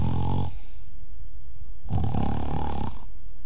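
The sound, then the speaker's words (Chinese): A male storyteller imitates Kou Zhun snoring loudly while asleep: two rough, rumbling inhaled snores separated by a pause of breathy quiet, forceful. “不大会儿的功夫，就听寇准打上呼噜了。”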